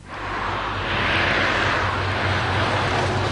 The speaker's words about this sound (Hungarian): Teherautó halad át a Nagykörösi úton. Hanghatása mondhatni nem igazán kellemes.